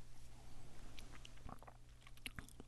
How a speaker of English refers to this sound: Now it's time to take a sip. Okay. Thank you. I'm being handed this remarkably chilled drink.